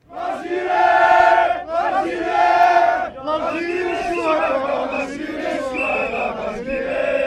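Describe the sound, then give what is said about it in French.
A large crowd of Algerians at a rally in Place de la République, Paris, with flags on shoulders, around heads or in hand, sings and chants patriotic songs in unison, loud sustained voices with strong harmonic pitch, rising in phrases and briefly dipping near three seconds before surging again. “Drapeau sur les épaules, autour de la tête ou à la main, la foule entonne des chants patriotiques.”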